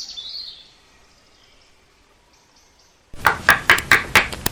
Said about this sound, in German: Oh, sieh mal da hinten, da ist ein Wohnwagen, da könnten wir doch klopfen.